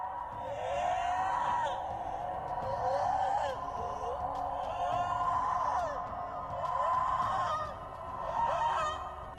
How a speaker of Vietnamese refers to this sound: Một mình lần mò đi về phía trước, thỉnh thoảng lại nghe thấy tiếng gào khóc thảm thiết truyền từ trong rừng ra.